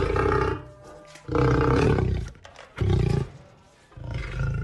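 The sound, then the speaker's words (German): A lion roars in a series of deep, rumbling bursts, four or five loud growling calls with short pauses between them, powerful, with no one speaking. “Dies waren ein Löwe und ein Krokodil.”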